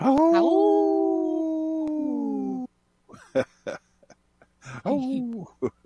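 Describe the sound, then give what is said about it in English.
A wolf lets out one long, loud howl that holds steady and then slides downward. A pause follows, then a scatter of short yips and whimpers and a second, briefer howl. “Pickles, howling, there's all these things that kind of just make me chuckle.”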